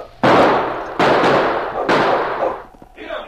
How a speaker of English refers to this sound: As Sergeant Preston, King, and Kate stopped where the prospector had been killed, they were suddenly startled by gunshots from the gully off to one side.